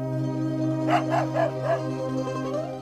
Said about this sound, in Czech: Idi pogledaj. Vidi, pas.